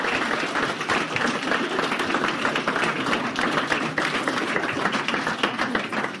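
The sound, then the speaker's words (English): An audience applauds a volunteer after a prosthetic hand illusion demonstration, a dense wash of many hands clapping at an even loudness for the whole stretch, with no voices rising above it. “A big round of applause”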